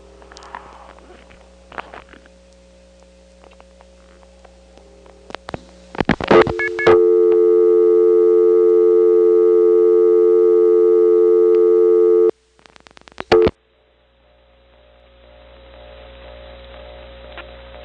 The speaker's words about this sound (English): Let's leave the Trinity Step for a minute and drive to another Atlanta neighborhood. I won't tell you which one it is, but let's walk up to this payphone here, drop a dime in, get a dial tone, and dial one digit.